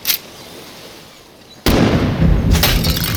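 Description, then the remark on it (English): A faint snap, then a sudden loud gunshot as a bullet strikes a ceramic dummy, followed by shattering porcelain with bright, high tinkling fragments scattering, the shot echoing off ocean cliffs, a second crash of debris near the end. “The bullet struck the ceramic dummy right on the corner of that smirk and shattered it. The high tinkle of breaking porcelain underscored by gunshot as it echoed off the ocean cliffs nearby.”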